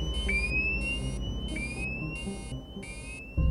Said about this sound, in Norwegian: Så går brannalarmen. Venstre motor, flyets eneste fungerende motor, står i brann.